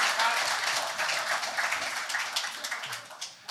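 A round of applause from a group of people, dense and steady hand clapping that stays fairly loud before thinning out slightly toward the end.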